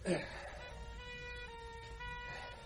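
An ambulance siren sounds steadily for a few seconds, a sustained, bright tone held fairly loud over a low rumbling background, after a brief thump at the start.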